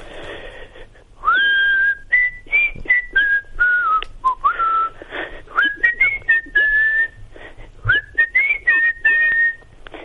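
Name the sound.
man whistling a tune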